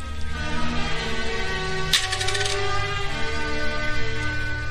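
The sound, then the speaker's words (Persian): A single bright metallic clink of a coin dropped into a milk seller's tray, ringing briefly and fading within a second, heard over a steady background of sustained music. “با ناتوانی چون باطنه مینشیند و سکه‌ای در مجمع مرد شیرفروش میاندازد.”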